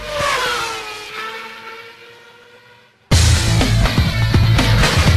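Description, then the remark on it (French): A short jingle: sustained musical tones fade out for a few seconds, then a sudden loud burst of roaring, revving race-car engine sound takes over. No one speaks. “Je me suis juste gouré de jingle.”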